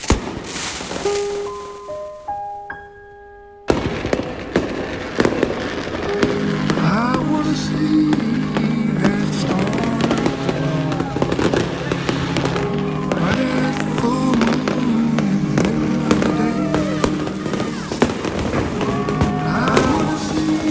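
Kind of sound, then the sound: sound effect, fireworks exploding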